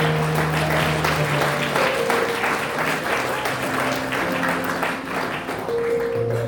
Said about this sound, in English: If you want to rise this year, give God a clap of praise.